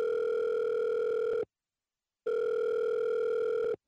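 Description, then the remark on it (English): A mobile phone ringback tone purrs through an earpiece in two long, steady electronic bursts separated by a short silence as a call is placed to the police, clear and fairly loud with no one speaking. “Shakily, she reached for her mobile phone to call the police.”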